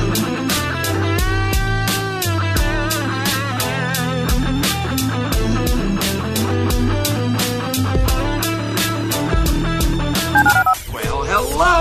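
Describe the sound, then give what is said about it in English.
Rapid, evenly spaced telephone keypad beeps play over a loud, busy musical backing with a steady bass line. The tones run on for about ten seconds before ending abruptly. “Dial the phone.”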